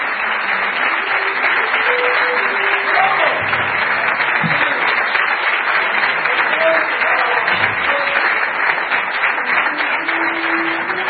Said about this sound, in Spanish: Yo quiero un aplauso fuerte